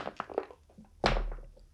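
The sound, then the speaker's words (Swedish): A single die is rolled across a table during a tabletop role-playing game, a pushed empathy roll: a few light, quick clicks as it tumbles, then one solid thunk as it lands and settles, with a short low ringing afterward. “Jag testar att pressa en tärning.”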